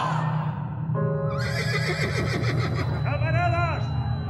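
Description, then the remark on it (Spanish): A horse whinnies loudly, a long shrill neigh that wavers up and down, heard over a steady low rumble of background noise. “La movilización anarquista fue custodiada por más de un centenar de miembros de la Guardia de Seguridad, montados a caballo y armados con sable y revólver.”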